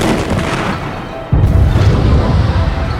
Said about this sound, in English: The cannon fired. The pulse of the thing made the superstructure vibrate, the two gull wings vanishing in a ball of flame the next instant.